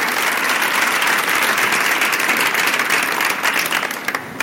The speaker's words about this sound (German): Herzlichen Glückwunsch, Dunja Schnabel, das ist Ihr Applaus.